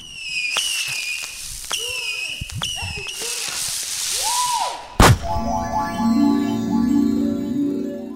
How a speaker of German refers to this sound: Die ganze Böllerei und die Raketen sieht ja toll aus und macht auch mächtig Spaß. Aber warum machen wir das eigentlich an Silvester?